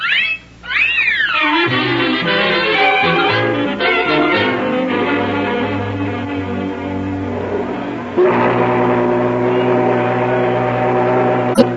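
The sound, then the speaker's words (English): A riverboat whistle sounds in long, loud, steady blasts of layered tones, with shifting pitches at the start and a fresh sustained blast near the end. “Listen, the whistle. We'll have to run for it.”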